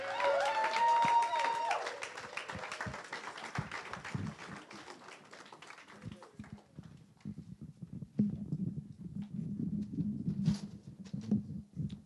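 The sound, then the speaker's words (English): An audience at Hungry for God Church applauds for Jesus with dense, sustained clapping, mixed at first with sustained musical tones, then settling into steadier, more rhythmic claps of moderate loudness. “Let's give Jesus one big round of applause.”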